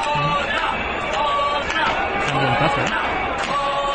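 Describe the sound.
A crowd at a demonstration cheers and applauds the police in a steady, loud roar, with overlapping shouting voices and a few sharp bursts rising above the din throughout.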